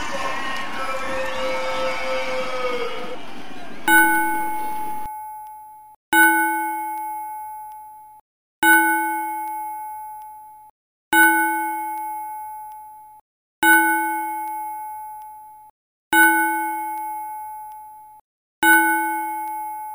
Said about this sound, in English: we pay tribute to the career and life of Derek Cheapshot Parks by ringing the bell 10 times